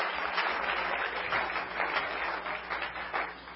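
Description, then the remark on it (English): A crowd claps steadily and continuously for the Lord, a dense wash of many hands applauding together with no talking over it. “Somebody clap your hands for the Lord.”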